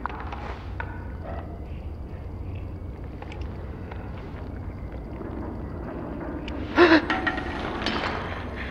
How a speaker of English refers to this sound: I thought you were about to fire. So you gasped just in case.